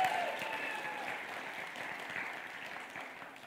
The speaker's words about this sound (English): The finely tuned machine that is the tech seat at Journey. Everybody applaud for the Journey tech team.